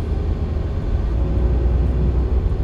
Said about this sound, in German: Ups! Und schon ging die Transportertür zu. Der Motor ging an und schwupps ging die Fahrt los.